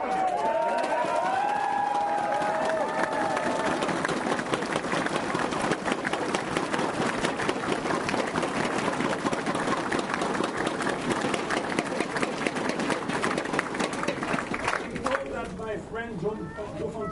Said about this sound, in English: And I would like that we applaud all together.